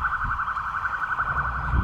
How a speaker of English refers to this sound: It's an ambulance coming through.